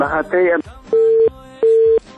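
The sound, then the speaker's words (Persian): A brief burst of a caller's voice on a radio call-in line gives way to two steady, identical beeps of a phone line tone as the call is cut off, each lasting about a third of a second with a short gap, clear and fairly loud. “متاسفانه که تماس برادر ما قطع شد، میخواستن شماری خود اعلان بکنن اما تماسشان قطع شد.”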